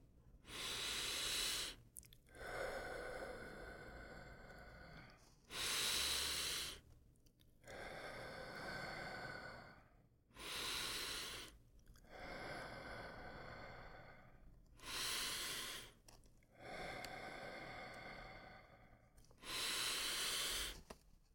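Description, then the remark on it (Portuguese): Slow, deep breathing in and out during a chakra meditation exercise, about five full cycles in a steady rhythm, each with a louder rushing breath, with no talking over it. “Novamente, respirando.”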